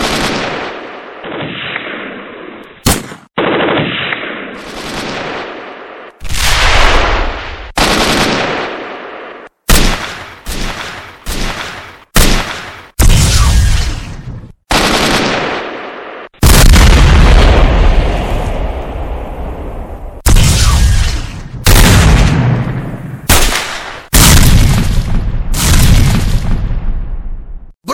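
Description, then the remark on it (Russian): Loud, repeated blasts of gunfire and explosions crack out at an irregular pace, each sharp burst trailing into a heavy, rumbling decay, with no voices heard throughout. “Огонь на поражение!”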